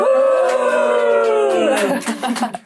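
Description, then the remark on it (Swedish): A studio audience, asked by the host for a cheer, cheers loudly for a few seconds, a swell of sustained whooping voices with scattered claps breaking in toward the end. “Ska vi ta ett litet jubel?”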